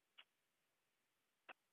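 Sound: answering machine tone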